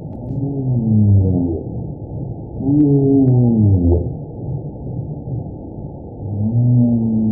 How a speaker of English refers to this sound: That's the humpback whale. Beautiful song, right?